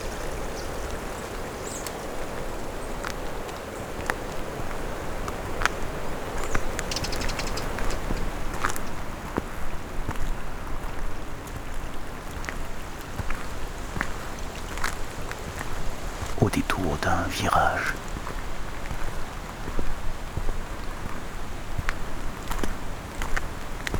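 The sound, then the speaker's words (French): Wind blows gently through leafy deciduous trees along a trail, making a steady, continuous rustle at a moderate level for the whole stretch, with a few brief higher chirps partway through. “Le souffle du vent qui éclabousse avec délicatesse les feuillus.”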